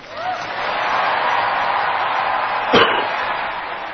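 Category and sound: crowd, audience applause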